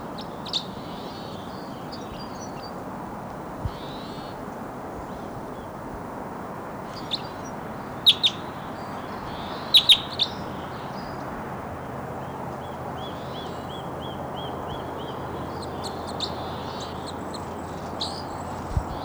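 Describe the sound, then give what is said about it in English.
Thin, high chirps and short trilled phrases of a wild crossbill perched on top of a tall lodgepole snag come and go over a steady hiss, with a few sharp clicks around the middle. “Wild crossbow song.”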